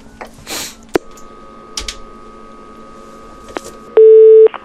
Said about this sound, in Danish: Så nu ringer vi til ham.